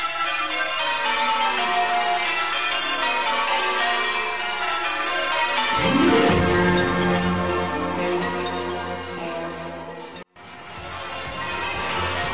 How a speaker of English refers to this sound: The bells, the bells.